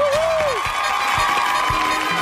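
An audience gives a strong round of applause for a guest, with steady, dense clapping that holds at a constant loudness throughout, while a brief gliding tone sounds at the very start.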